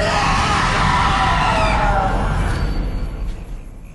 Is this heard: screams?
yes